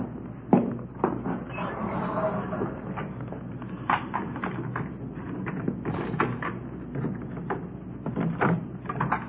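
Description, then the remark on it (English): The front door of 1456 Collis Avenue being opened and shut at 10:38 p.m., with a run of muffled clunks, latch clicks and rattles spread over several seconds, over a low steady hum. “It was 10:38 p.m. when I got to 1456 Collis Avenue, the front door.”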